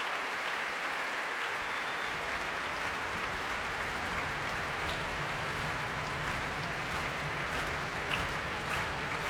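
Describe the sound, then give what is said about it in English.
A large capacity concert audience claps steadily and continuously, a dense wash of hand claps with no pauses, holding at an even level throughout with no voices rising above it. “And that, ladies and gentlemen, is the sound of a capacity audience who have very much enjoyed themselves.”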